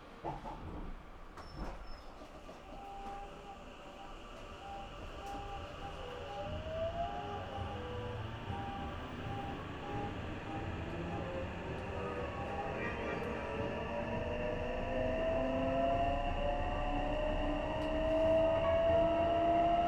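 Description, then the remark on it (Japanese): An electric train bound for Osaka-Umeda pulls away from the station, its motor whine climbing steadily in pitch as the rumble of the carriages grows louder over twenty seconds, with no voices. “停車大阪梅田行き、ただいま発車します。”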